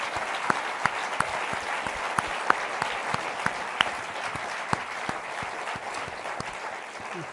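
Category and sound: crowd, audience round of applause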